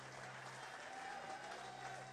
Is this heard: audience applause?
yes